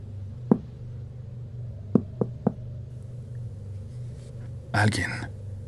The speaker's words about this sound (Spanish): Alguien tocó la puerta del baño. Al principio grité ocupado pensando que era una de las chicas que hace la limpieza, pero en ese momento caí en cuenta de la hora que era.